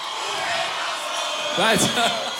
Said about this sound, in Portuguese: Uma salva de palmas